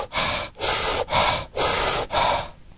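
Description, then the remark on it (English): A voice imitates the gasping, fish-like breathing of Kussmaul respirations: four harsh, airy breaths in quick, steady succession, fairly loud, with short gaps between them and no talking. “Or there's Quismal's respirations, that fish breathing.”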